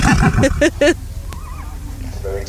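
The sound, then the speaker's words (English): A large Shire horse, a rather nervous one, whinnies loudly, a quick run of quavering, pulsing calls lasting about a second, followed by quieter background noise with a faint, wavering tone. “This is, unfortunately, a rather nervous example of a Shire horse.”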